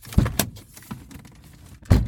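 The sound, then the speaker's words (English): A Golf car door shuts with a solid, low clunk near the end, after a couple of sharper clicks and rattles from the latch and handle, with no voices. “They had this ad campaign and it was all about the sound that the golf door makes when it's closed.”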